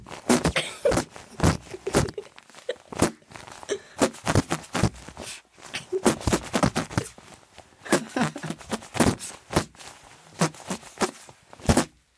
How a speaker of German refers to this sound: Oh, ja, dann könnten wir zusammen mit unseren Pupskissen ein Lied pupsen. Genau. Schlag eins vor, irgendwas, was jeder kennt. Weiß nicht, alle meine Entchen.